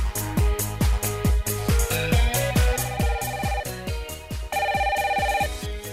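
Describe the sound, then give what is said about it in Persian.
A telephone ringtone for an incoming caller plays loudly and steadily: a quick, repeating electronic melody over regular thumping beats, with no voices, continuing for several seconds. “ما تلفن دیگری هم داریم، اون رو هم بشنویم.”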